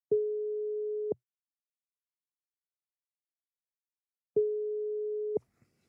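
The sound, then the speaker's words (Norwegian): An outgoing phone call's ringback tone: two steady, mid-pitched electronic tones, each about a second long, separated by a long silent pause, with a faint click at the end. “Så prøver vi sgu at ringe til ham også.”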